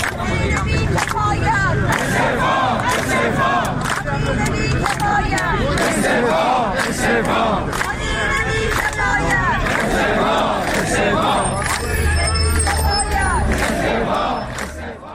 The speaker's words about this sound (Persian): و در تهران در مقابل سازمان برنامه و بودجه گرد آمدند. شعار تجمع کنندگان در تهران را می‌شنویم.